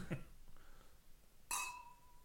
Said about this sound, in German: Also Loss ist das Stichwort, lass uns mal anstoßen. Richtig.